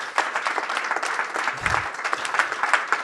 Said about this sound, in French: Merci de ce que vous faites pour l'orchestre, merci de ce que vous apportez. On peut vous applaudir comme des artistes.